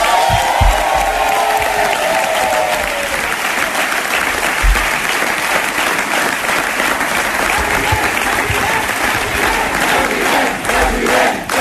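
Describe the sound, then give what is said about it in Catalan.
A large crowd applauds loudly and steadily while voices chant "president" together for Salvador Illa at a Socialist Party of Catalonia (PSC) celebration of its win in the Catalan municipal elections. The rising, rhythmic cry is strongest near the start and stays under the clapping throughout. “Crits de president també a Salvador Illa, que ha reivindicat durant tota la campanya que aquestes eleccions també eren un esglaó per poder acabar fent el pas a la Generalitat.”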